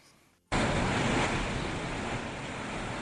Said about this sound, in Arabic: لا تنفك أمواج هذا البحر تذكر القاطنين هنا بمأساة اللجوء، وكأن زلزالا ضرب المكان، فلا سقف ولا أرض سلمت. اخترقتها أمواج بحر مخيم الرشيدي في وقت غزا فيه سيل الرمال باحات المنازل رغم محاولات أصحابها إيقافه.